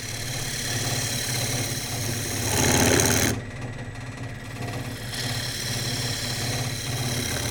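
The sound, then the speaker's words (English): A wood lathe hums steadily while a turning tool hisses against a spinning wooden bowl, cutting only wood as the outside of the bowl is finished. The breathy hiss swells for a few seconds, briefly thins out, then returns over the constant motor drone. “Eventually, I'll get to the point where I'm just hitting wood, and when we get to that point, what you'll hear is more of a hiss.”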